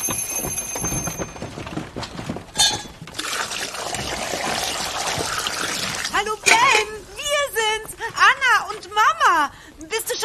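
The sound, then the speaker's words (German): Cooked pasta being drained, a steady rushing pour of water that runs for several seconds before voices take over in the final seconds. “Boah, die Nudeln sind fertig. Ach, schnell abgießen.”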